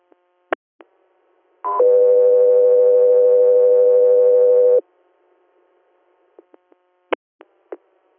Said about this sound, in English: Got 3-0, stand by for tones.